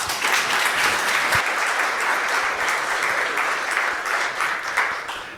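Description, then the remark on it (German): Steady audience applause welcoming a returning speaker at a talk fills the whole stretch, a dense crackle of many hands clapping at an even, sustained volume with no voices over it. “Eine Runde Applaus bitte.”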